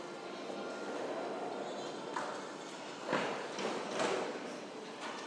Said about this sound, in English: Right, so... Train's off anyway, no, yeah.